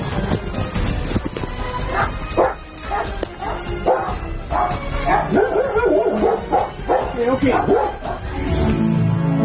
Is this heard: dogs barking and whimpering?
yes